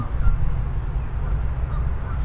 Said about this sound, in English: And these geese are very loud eaters. I can hear them from here. I don't know if they're eating duckweed or what, but they're into it.